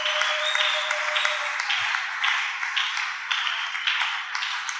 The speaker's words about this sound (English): Ladies and gentlemen, from the bottom of your heart, please clap for these children again. Please clap for them. Clap for them.